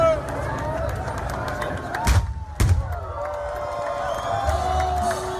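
A large crowd at the start of the New York Marathon keeps up a steady roar of cheering and chatter, broken by two sharp, booming bangs in quick succession midway through.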